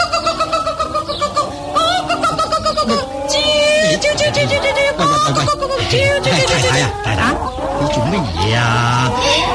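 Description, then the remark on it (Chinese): A flock of chickens clucks and squawks loudly and continuously, with overlapping calls, forming a dense, busy barnyard chorus throughout, as the chickens are being fed and chased. “十四喺嗰边喂紧鸡，你又喺呢度赶鸡，咁做乜嘢啫？”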